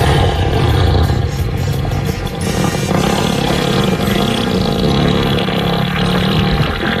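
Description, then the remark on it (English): A long, loud elephant fart sound effect: a deep, rumbling, sputtering blast that rattles on steadily for about seven seconds without a break, with no voices over it. “So that is an elephant fart.”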